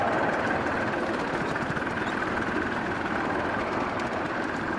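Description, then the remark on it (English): A steady, rapid steam locomotive exhaust purrs continuously, a dense rumbling rhythm with no gaps. The locomotive is climbing a gradient and gathering speed as the driver reduces the cutoff, linking up. “We come up the gradient, we're gathering speed now, so now I'm going to start reducing the cutoff, linking up, and you can hear the exhaust note changes to a purr.”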